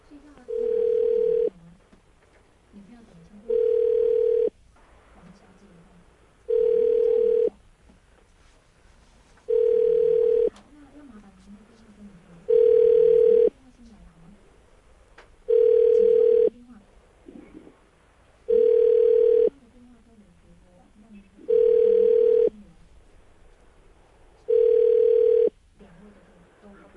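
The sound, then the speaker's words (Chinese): A phone ringback tone on a third call attempt repeats about ten times at a steady pace, each steady tone burst lasting over a second with pauses between, while faint murmuring voices continue underneath and no one answers before the call goes to voicemail. “好了，刚刚那个我们也试三次，我们再试第三次吧。他刚第三次 pick up 的嘛，对不对？”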